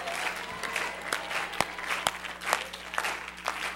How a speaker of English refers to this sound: They're still clapping.